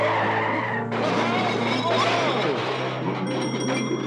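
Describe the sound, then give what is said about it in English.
A heavy 10-ton army lorry engine rumbles loudly and steadily throughout, with chaotic high-pitched squeals and screeches from 15 pigs riding it layered on top for about four seconds. “And for my finale, 15 pigs riding a 10-ton army lorry.”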